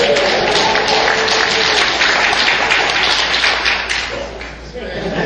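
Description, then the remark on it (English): A crowd applauds steadily, a dense, loud wash of many hands clapping at once that holds for several seconds before thinning out and softening toward the end. “Appreciate the applause.”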